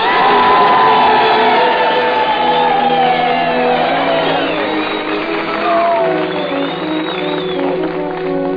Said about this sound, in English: And now, how about some well-deserved whistles, cheers, and applause for the Dean of American Music, ….